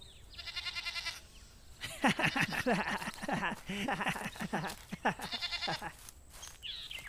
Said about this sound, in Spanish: ¡Dejen esa cabra en paz!